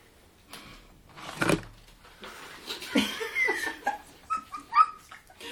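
A dog whimpers and whines in short, uneven bursts, with some wet chewing and mouth noises in between, as chewed sweet potato parts are pulled from its mouth, no talking.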